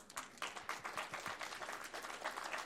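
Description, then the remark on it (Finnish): An audience of volunteer reading grandmothers and grandfathers applauds themselves, many hands clapping in a dense, steady patter that stays even in loudness for a few seconds. “Voitte antaa itsellenne aplodit.”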